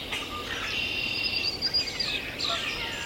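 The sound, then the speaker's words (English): A dense dawn chorus of birds at sunrise, including northern cardinal, blue-gray gnatcatcher, warbling vireo, red-winged blackbird, swamp sparrow, yellow warbler, common grackle, catbird, common yellowthroat and Canada goose, with overlapping high chirps, trills and whistles layered continuously over a faint outdoor hiss. “We're hearing northern cardinal, blue-gray gnatcatcher, warbling vireo, red-winged blackbird, swamp sparrow, yellow warbler, common grackle, catbird, common yellowthroat, Canada goose.”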